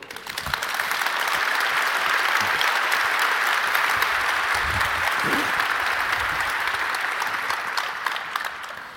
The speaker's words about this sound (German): Tut mir einen Gefallen und empfangt die drei mit einem wunderbaren Applaus.